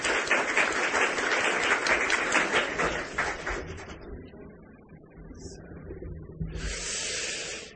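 An audience applauds a contestant after the judges' scores are announced, a dense, steady burst of clapping that fades out around the middle, then a second softer swell of clapping rises near the end.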